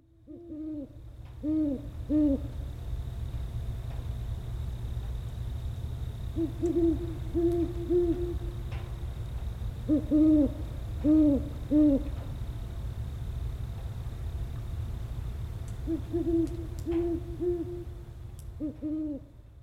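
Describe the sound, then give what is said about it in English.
Short groups of soft, hollow owl hoots repeat every few seconds, moderately loud, over a steady low rumble in the background, heard one morning outside a bedroom window in the country. “Like owls hooting at 3 a.m.”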